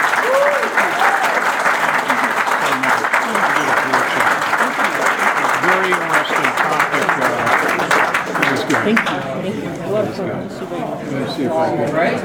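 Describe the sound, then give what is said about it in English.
An audience applauds steadily for about twelve seconds, dense clapping with scattered voices and calls mixed in, the applause thinning slightly toward the end. “And one more hand of applause.”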